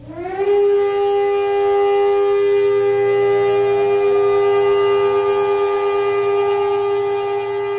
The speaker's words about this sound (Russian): Двухминутная траурная сирена, прозвучавшая по всей стране в 11 утра по местному времени, стала сигналом к началу целого ряда мероприятий, посвященных Дню поминовения павших в войнах Израиля и в террористических актах.